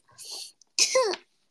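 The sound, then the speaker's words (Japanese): A short breathy burst followed by a louder, harsher cough that trails off into a voiced, falling groan, with nobody speaking around it. “ちょっと待って、咳が出る。”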